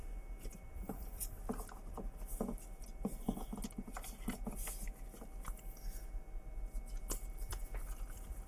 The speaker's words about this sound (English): So I'm going to stack the deck a little bit more to show you what I mean.